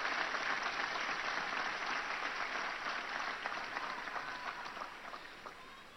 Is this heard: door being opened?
no